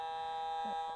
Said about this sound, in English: Remember we heard about the foghorn? Well, it's going to make a noise so any ship out there would see it.